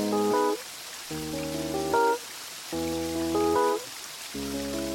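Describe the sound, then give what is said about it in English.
At the start of a song, a steady hiss of rain or flowing water runs throughout, beneath louder sustained musical chords that repeat in blocks every second or so, with no voices. “We have the sound of rain, of flowing water.”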